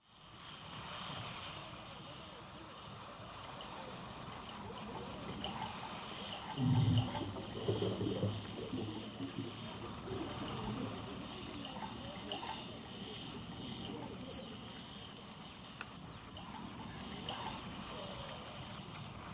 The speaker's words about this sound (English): That's the sound of dolphins as they're being slaughtered in a cove in Taiji, Japan.